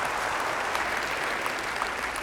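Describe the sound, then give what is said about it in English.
A steady wash of audience applause telling a search committee they are free to go find the guy, many hands clapping densely and evenly at moderate volume throughout, with no voices or pauses breaking the sound. “All right, an applause would tell our search committee they're free to go find the guy first.”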